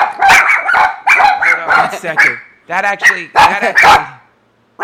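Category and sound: animal, dogs barking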